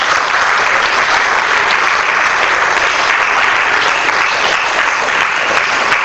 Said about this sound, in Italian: Sì, un applauso, certamente.